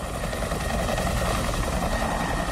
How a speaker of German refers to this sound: Der Hubschrauber, mit dem das Album eröffnet, hätte der Polizeihubschrauber von der letzten Demo sein können. Genauso könnte er aber auch auf den Film Apocalypse Now verweisen.